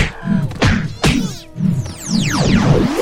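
Video game punches land as sharp thwacks, two distinct hits about half a second apart, after a Megaton punch item that lets the punches reach much farther. Swooping electronic tones and a low rhythmic thrum follow underneath.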